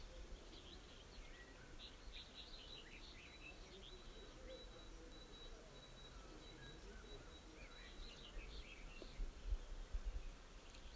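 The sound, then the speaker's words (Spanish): Several birds chirp and trill softly over a steady hum of insects, a continuous outdoor chorus with no voices. “Acompañada por el canto de los pájaros.”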